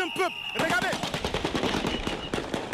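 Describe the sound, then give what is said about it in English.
Rapid bursts of gunfire crackle in quick succession, loud, over a noisy crowd with shouting voices in Burkina Faso, as Presidential Guard members driving by in vehicles fire into the air to disperse people; a brief tonal whistle and cries are heard at the start. “He is interrupted by gunfire.”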